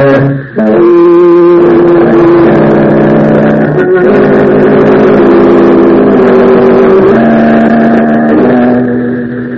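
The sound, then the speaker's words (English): A car engine revs loudly and pulls away, its droning pitch climbing and stepping up through the gears for several seconds before easing slightly at the end. No one speaks. “We'll drive away and then come back later.”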